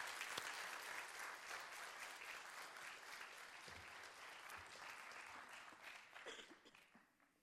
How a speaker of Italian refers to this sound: Ecco, dato che questa è l'ultima lettura, vi inviterei a fare un caldo applauso